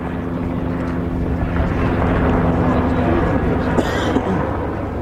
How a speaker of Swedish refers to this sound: På isen runt Hästholmen rörde sig en av arméns hydrokoptrar, och just innan president Kekkonen och regeringschef Kosygin anlände cirklade en helikopter över området.